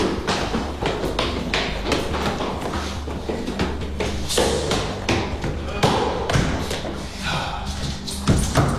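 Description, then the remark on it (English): Repeated heavy thuds against a heavy security door, loud, coming in an uneven pounding series through the whole stretch, with muffled voices underneath. “Like a security door.”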